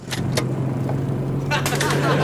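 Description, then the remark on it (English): An old-fashioned car drives along a country road, its engine droning steadily in a low continuous hum throughout, with a few brief rattling, clattering bursts layered over it. “An old-fashioned car is driving along a country road.”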